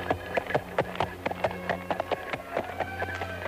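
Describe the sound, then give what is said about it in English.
Hooves of two black horses pulling a black carriage clatter across a wooden bridge over the waters surrounding Dracula Castle, in a quick, uneven stream of sharp knocks, about a dozen in a few seconds, over a steady low hum. “Alfred was woken up by the sound of horses' hooves on wood.”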